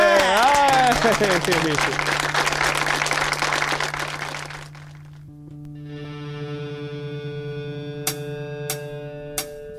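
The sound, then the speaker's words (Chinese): At the start of a live concert recording, a crowd applauds and cheers loudly for several seconds, then the clapping fades out as music starts with held tones, followed by a few sharp percussive hits. “好啊，俾掌声。”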